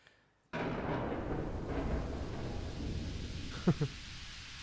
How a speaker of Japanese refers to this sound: 雨降ってます。 雨から 豪雨ですね。 豪雨ですね。